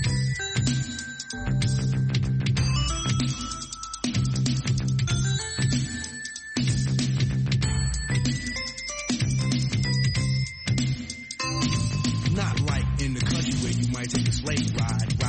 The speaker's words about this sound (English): So again, let's hear those bells. Bells.